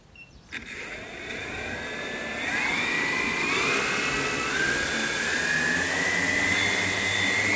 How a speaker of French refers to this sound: Là, on voit le drone sur son terminal de décollage et d'atterrissage. Le drone s'est initialisé, a mis les moteurs en route. Et puis, les moteurs vont accélérer progressivement jusqu'à mettre le drone en sustentation à quelques mètres au-dessus du